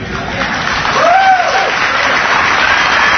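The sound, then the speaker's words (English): Steady, dense applause from an audience fills the whole stretch, loud and even throughout, with a brief rising whistle or whoop cutting through the clapping. “Don't applaud. I know what you're applauding for, but listen,”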